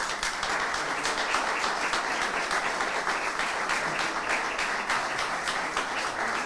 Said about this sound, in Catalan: Un fort aplaudiment.